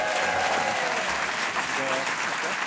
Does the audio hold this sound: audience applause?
yes